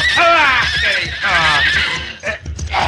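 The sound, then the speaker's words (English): A horse named Diablo whinnies loudly, a long quavering neigh that rises and falls, followed by snorting breaths and a few shorter bursts toward the end. “But you saw how my horse was acting.”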